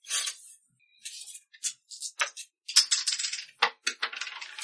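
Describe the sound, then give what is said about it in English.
Dice tumble and clatter across a hard floor in a quick burst of sharp, bright clicks and rattles, bouncing several times before settling. Fairly loud, with no voices. “Throw your dice on the floor. That works too.”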